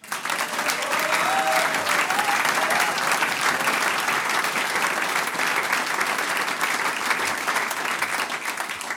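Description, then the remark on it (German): Sustained applause from a large audience, a dense wash of clapping that stays loud and steady for the full nine seconds with no gaps. “und wir drücken dir ganz fest die Daumen. Applaus.”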